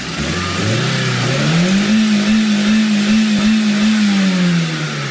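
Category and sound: vehicle, car engine revving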